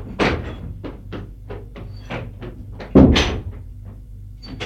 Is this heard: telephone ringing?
no